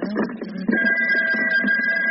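household object, telephone ringing

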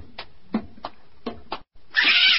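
animal, cat caterwauling

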